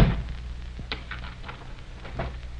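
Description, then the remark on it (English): A door thuds shut on a room where a man is being held, then a few sharp clicks and rattles follow at uneven intervals as it is locked, all over a low, steady background hum. “Lock the door, Mac.”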